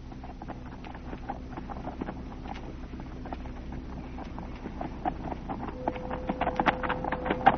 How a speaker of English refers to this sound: Look at that horse riding away from our Holcomb's place